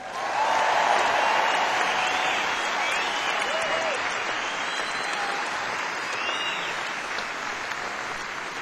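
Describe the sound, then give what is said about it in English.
An audience at a live music show claps steadily for a band musician in a dense, sustained round of applause, loud at first and tapering slightly, with a few faint whoops and voices mixed into the clatter. “about a nice round of applause for …?”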